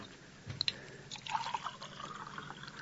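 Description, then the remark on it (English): A couple of light glassy clinks, then water splashes and gurgles as it's poured into a glass, fairly quiet, with no voices. “And a little water, honey.”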